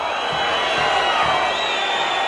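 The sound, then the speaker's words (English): A dense, steady roar of stadium fans cheering in real time, played back through the stadium loudspeakers so the players can hear it, and picked up by the television cameras: loud, continuous crowd noise with no clear individual voices, sustained for a couple of seconds. “the sound of the audience, and this is fans reacting in real time, that gets played through the stadium speakers so the players can hear it.”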